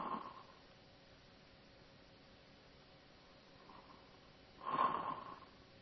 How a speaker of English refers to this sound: Yep, I hear snoring.